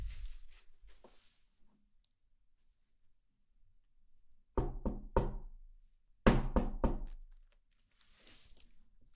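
Two separate bursts of firm knocking on a door by a food delivery courier, each three or four quick raps, loud, with faint shuffling and a few soft taps between them and no talking.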